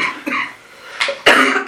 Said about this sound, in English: Bad cough